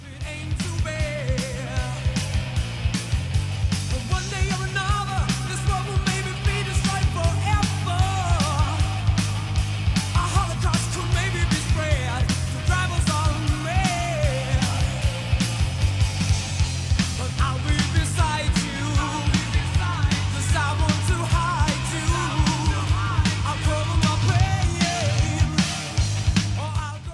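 A 1983 rock song plays at full volume, with a chugging repeated bass riff, steady pounding drums and wailing melodic lead lines riding over the dense, raw band sound.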